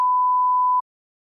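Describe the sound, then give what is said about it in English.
A single mobile phone beep during a classroom lesson: one steady, clear electronic tone lasting just under a second, cutting off abruptly into silence. No voices accompany it. “Is it your phone?”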